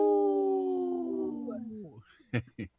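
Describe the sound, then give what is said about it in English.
A person imitates a wolf howl on Native Roots Radio for the sponsor Howling for Wolves: one long, sustained wavering tone that slowly slides downward in pitch, then two short, loud vocal bursts together. “This portion of the show is supported by Howling for Wolves, protecting wolves for future generations. Howl! Howl!”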